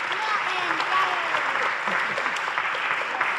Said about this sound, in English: Let's give them a wonderful big round of applause.